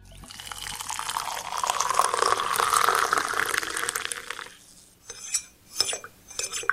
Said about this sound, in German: Rein in die Tasse, heißes Wasser drauf, umrühren, fertig ist der Kaffee. Die Zubereitung von Pulverkaffee ist verlockend einfach.